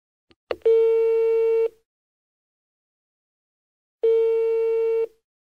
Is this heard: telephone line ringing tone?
yes